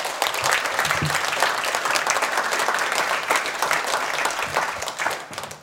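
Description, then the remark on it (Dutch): An audience applauds the writer Bernlef as he is introduced as a guest, a dense wash of many hands clapping at an even loudness throughout, with no voices standing out. “Help me herinneren, dames en heren, een applaus voor Bernlef.”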